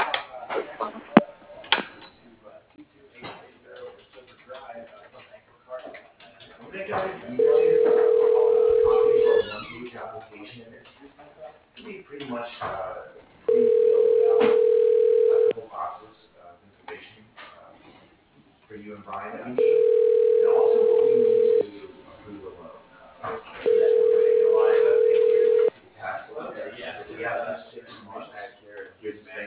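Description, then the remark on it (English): A telephone rings four times during a call transfer at Genesis Concrete Structures: steady, mid-pitched two-second tones at even intervals, sounding thin like a phone line, over constant muffled background noise. “Please hold while I transfer your call to...”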